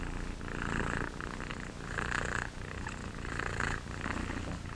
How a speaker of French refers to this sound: J'en viens donc à discuter cette production par contraction musculaire active qui a lieu lors du ronronnement du chat et d'autres effets là.